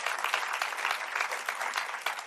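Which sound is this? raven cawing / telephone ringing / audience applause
audience applause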